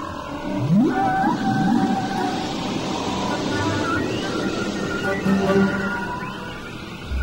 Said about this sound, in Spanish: Les damos una pista. Escuchen. ¿Y adivinaron de qué se trata? Creo que ese sonido es de ballenas.